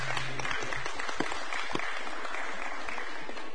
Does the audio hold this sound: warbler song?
no